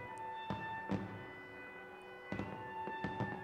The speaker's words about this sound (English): I hold her close. Fireworks drown out her sobs.